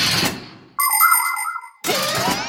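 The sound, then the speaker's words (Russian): A malfunctioning doorbell: a crackly burst of noise gives way to a buzzy, warbling electronic chime for about a second, then cuts into another harsh, noisy burst with a sliding pitch. “Не звони! Звонок сломался?”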